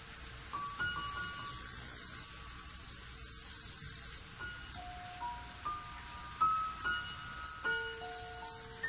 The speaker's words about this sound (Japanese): ある日のこと、ロバはキリギリスの歌声を聞きました。